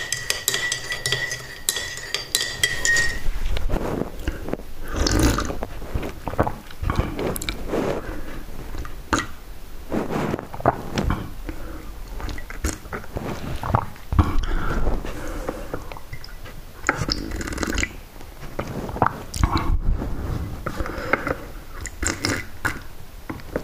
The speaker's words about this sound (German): Ich muss die jetzt so abschlürfen, weil. Die Tasse, der hat die Tasse so voll geknallt.